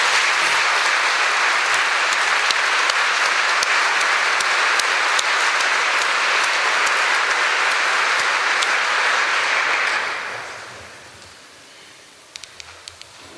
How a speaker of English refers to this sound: I think both of them deserve another round of applause.